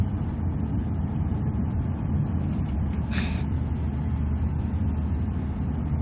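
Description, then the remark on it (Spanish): Steady low rumble of a bus in motion fills the interior, with one short, sharp burst of air-brake hiss around the middle, then the drone continues evenly. “Descansa tú, que yo no puedo dormir en el autobús.”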